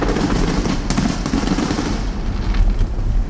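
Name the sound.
fireworks display explosions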